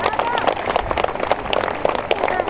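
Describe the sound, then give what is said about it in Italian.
Sustained audience applause at a campaign event of the Uniti per Calvi election list, a dense steady patter of many hands clapping at an even loudness for the whole stretch, with a few voices faintly mixed in beneath. “Non vi fermate, potete continuare con l'applauso.”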